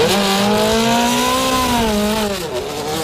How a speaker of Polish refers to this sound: jest to w tej chwili współczesna wyścigówka, ale ma dużą nutę dzikości w sobie